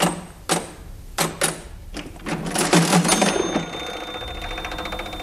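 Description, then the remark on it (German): An old mechanical cash register clacks through a series of sharp key presses, then whirs and rattles as the drawer mechanism runs, ending with a bright ringing tone that lingers. Fairly loud, no talking. “Ich kenne tatsächlich noch einen kleinen, gut gehenden Süßigkeitenladen, dessen junge Inhaber eine alte Registrierkasse benutzen.”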